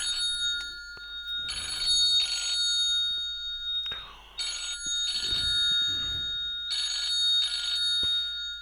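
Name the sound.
telephone ringing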